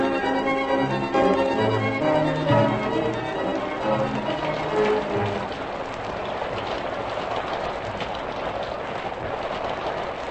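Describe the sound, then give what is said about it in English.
Heavy tropical storm rain roars steadily, a dense hiss that grows dominant after a few seconds of layered tonal, musical sound at the start. No one speaks. “I can't tell how far we've come since the rain started.”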